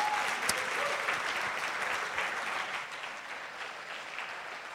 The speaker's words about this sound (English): Shall we do that, church? Yeah, let's give them a round of applause to you.